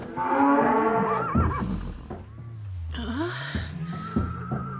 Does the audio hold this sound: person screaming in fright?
no